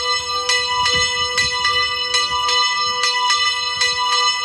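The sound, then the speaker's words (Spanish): A bell of the San Marcos hermitage in Abelda de Iregua, La Rioja, Spain, rings repeatedly in a steady rhythm, each loud metallic strike leaving a long, shimmering resonance that overlaps the next, with no voices present. “Esta es una de las campanas de la ermita de San Marcos, que por fin vuelve a contar con todas ellas.”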